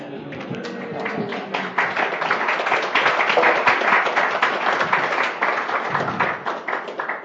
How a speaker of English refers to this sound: I have to admit, I like when you clap. It's reciprocation of love. It humbles me, thank you.